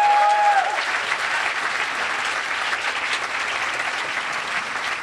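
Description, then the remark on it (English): Steady applause from a sizable crowd thanking a signer, a dense wash of clapping that holds at an even level throughout, with a brief whistle-like tone at the very start. “It's thank you, round of applause.”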